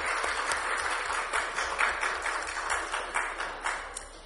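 A church audience applauds steadily at a family celebration after a child's blessing, a dense, even crackle of many hands clapping that carries on for several seconds at a moderate level with no voices over it.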